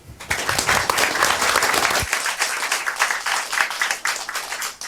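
A crowd bursts into sustained applause, dense overlapping clapping that stays loud throughout, with a low rumble in the first two seconds that then drops away.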